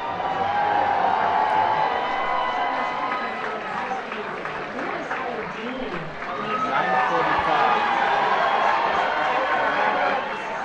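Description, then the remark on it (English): A large crowd erupts in sustained, loud cheering and applause, with whoops and shouting continuing for the whole stretch, energetic without letting up, at a campaign's election night headquarters in Manchester, New Hampshire, greeting news of John Kerry's projected win in the New Hampshire primary. “was greeted with a loud cheer at his election night headquarters in Manchester.”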